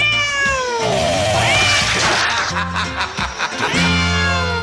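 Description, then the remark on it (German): A cat meows repeatedly, several drawn-out, wavering meows, fairly loud, overlapping one another like a short sound-effect sequence being added to an edited audio report. “Hier noch ein Miau, hier noch eins.”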